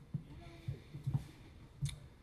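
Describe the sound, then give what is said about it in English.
A door handle clicks and rattles as a door at a coffee house is opened, giving a few short, dull knocks and clicks spread irregularly over a couple of seconds, fairly quiet against a faint background. “That door goes the wrong way.”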